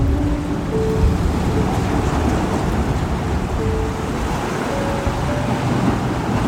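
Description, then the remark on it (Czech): Steady, rumbling ocean surf washing against the shore, a continuous broad wash of water noise with no distinct breaks between waves, fairly loud, with no voices. “Je to meditace od oceánu, která tě naladí do stavu flow, do jemného plynutí, tak si nyní dopřej chvilku sám se sebou.”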